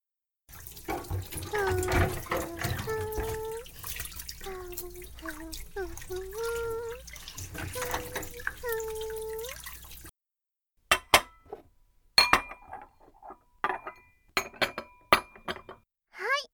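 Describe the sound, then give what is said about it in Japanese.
Dishes being washed under a running tap: steady water flow with clinks of plates and cutlery for about ten seconds, then the water stops and a few separate clatters of dishes being set down follow. “お皿洗い終わり。”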